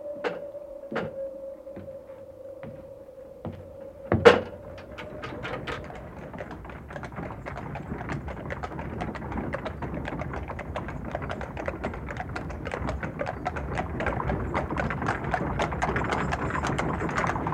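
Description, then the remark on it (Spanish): A steady low tone and a sharp knock give way to rapid, continuous clip-clopping hooves and clattering wheels of the carretón, the legendary phantom cart, on a cold evening as rain begins, growing gradually louder and keeping up a busy, uneven rhythm with no voices. “Virgencita, pero sí es el carretón.”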